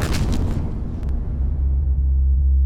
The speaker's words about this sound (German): 18. September 1931. Eine Bombe explodiert in Nordchina. Es scheint klar, ein chinesischer Anschlag auf die von Japan verwaltete und durch japanische Truppen beschützte südmandschurische Eisenbahn.